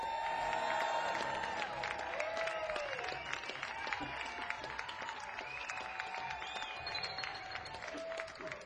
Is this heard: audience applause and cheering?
yes